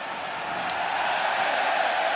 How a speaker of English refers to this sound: Set up by Aiden Hill, who hears the Bronx cheer from the crowd.